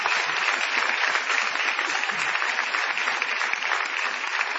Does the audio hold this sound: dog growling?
no